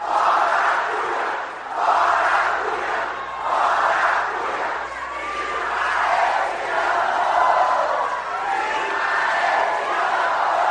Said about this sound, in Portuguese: teve o discurso interrompido algumas vezes pela plateia.